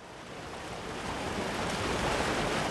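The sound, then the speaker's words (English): Steady roar of Tongue River water rushing over the 12-mile diversion dam, 12 miles south of Miles City, a dense continuous wash that swells slightly louder over a few seconds, unbroken, with no voices. “We're standing at the 12-mile diversion dam on the Tongue River, 12 miles south of Miles City.”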